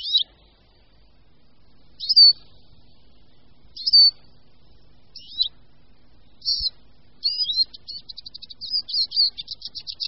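A small, lively, yellow-green finch, a Eurasian siskin, sings its song: separate high twittering notes at first, then a quick run of buzzy chattering trills near the end, clear with no talking.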